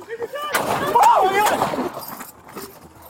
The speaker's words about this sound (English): Shots fired! Shots fired!